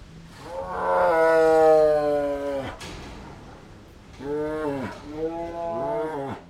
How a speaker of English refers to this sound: That's feeding time at Turpentine Creek. The tigers huff with anticipation as they wait for their share of the donated pounds of meat to be tossed to them from workers at the refuge.